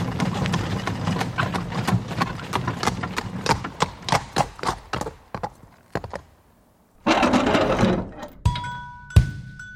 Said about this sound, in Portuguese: Se bem que demorado mesmo é aquele bonde do século XIX, com tração animal puxado por burros.